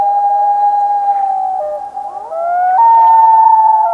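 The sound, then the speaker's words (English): A common loon nesting on Lake Wobegon gives an eerie wailing call in summer: one long, loud, hollow tone that holds steady, wavers briefly midway, then rises to a slightly higher pitch and sustains, with no voices present. “The loons, nesting out on Lake Wobegon, gave those eerie, unforgettable calls all summer long.”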